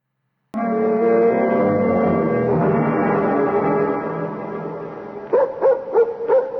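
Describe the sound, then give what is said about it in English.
A dog lets out a long, loud, drawn-out howl, then fires off four quick, sharp barks in a steady rhythm, with no voices present. “Oh, it's just Ruth's dog.”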